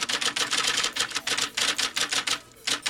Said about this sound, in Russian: Как на пишущей машинке две хорошенькие свинки. Туки-туки-туки-тук, туки-туки-туки-тук. И постукивают, и похрюкивают.